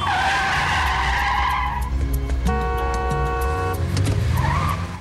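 A Porsche's tyres screech loudly as it brakes hard to a stop when a large truck turns left across the road ahead, the squeal sweeping in pitch, followed by a sustained horn blast over the rumbling engine.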